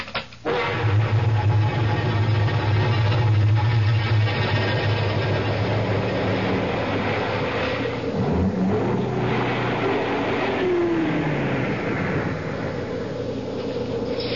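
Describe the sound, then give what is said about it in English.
A car engine rumbles steadily, a low droning hum with road noise that shifts and drops in pitch partway through as the car comes to a stop, then settles into a continuous idle-like drone. “I guess this is as far as the car can take us.”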